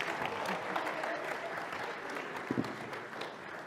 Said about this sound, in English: Right, let's send them back to their seats. Can we give them all a well big clap?